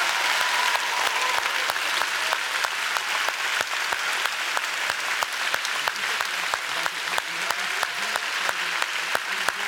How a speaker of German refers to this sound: Darf ich noch einmal eine Idee, alle mal abklatschen? Ich glaube, weil die Jungs und Mädels, die freuen sich voll. Und dann bitte auch noch mal einen Applaus an die Jugendjury. Alle Hände raus, alle mal abklatschen.